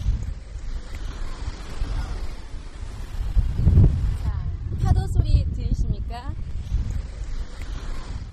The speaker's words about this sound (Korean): 바람 소리와 섞여 있는 이 파도 소리. 노스캐롤라이나 주에 있는 아우터뱅크스라는 바닷가에서 들려드리는 파도 소리입니다. 아, 좋네요. 파도 소리에 바람 소리까지 뭐 해변 분위기 제대로 가져오셨는데요.